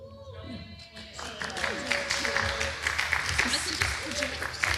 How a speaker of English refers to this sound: Oh, why did we clap?